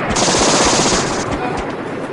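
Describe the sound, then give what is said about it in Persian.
Rapid bursts of machine gun fire rattle continuously and loudly for a couple of seconds, dense overlapping shots with a faint voice shouting underneath, as a group opens fire on an enemy position above them on an order for everyone to shoot. “همه شلیک کنن، همه.”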